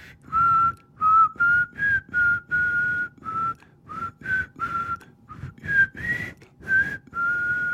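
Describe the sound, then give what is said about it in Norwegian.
One person whistles two tones at once, a clear high melody over a rougher lower tone, in short phrases with brief breaths between them. No talking. “Plystret tostemt.”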